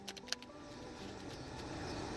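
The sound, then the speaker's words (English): A deck of tarot cards being shuffled before three cards are taken off the top: a quick burst of crisp papery flicks at the start, then softer, scattered rustles over a steady low background hum, fairly quiet. “I'm shuffling now, and I will take the three cards off the top to kind of give me an idea of the storyline that may be going on behind the Silkie and her skin.”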